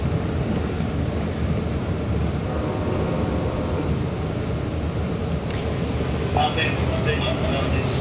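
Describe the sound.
A steady, loud low rumble of a train interior while riding, constant and droning throughout, with faint muffled voices and a brief higher whine near the end.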